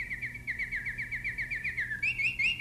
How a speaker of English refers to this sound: Now listen for the canary.